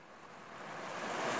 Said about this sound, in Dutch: En in de verte zie je de oceaan. En je hoort hem heel donker ruisen. Boven de golven uit.